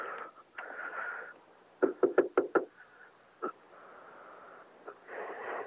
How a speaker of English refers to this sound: Okay, I'm at the next, my neighbor's. Knock on the door and tell them the phone's for them.